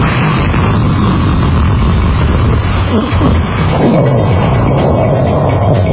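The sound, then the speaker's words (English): A loud explosion sound effect played to mimic a car crashing into the side of a Buick: a dense, roaring rumble that fills the full six seconds at steady volume, with crackling debris-like texture and no voices. “Just playing the explosion sound effect.”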